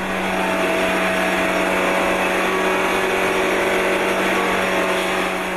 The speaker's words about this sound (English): And so we've been able to set up a dynamometer that you can tilt the engine to simulate the high G levels that you see on those cornering maneuvers on the racetrack.